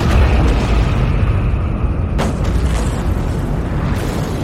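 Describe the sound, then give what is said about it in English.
Thermonuclear explosives carried by drones detonate in a loud, continuous, deep roar, with sharper blasts bursting through near the middle and again near the end. No voices are heard. “In a moment that was equal parts rage and meditation, I detonated each drone's thermonuclear explosive.”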